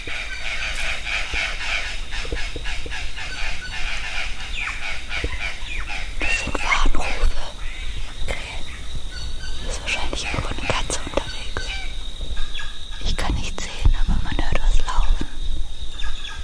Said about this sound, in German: Und ja, da lief in der Tat was durch den Wald, vor dem die Krähen einander gewarnt haben. Jetzt wollte ich eigentlich nur meine Kamerafalle einsammeln und stand auf einmal genau vor einem Jaguarundi.